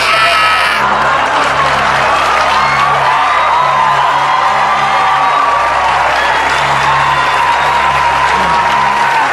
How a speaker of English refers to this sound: What if he ran out of time? Because of the applause.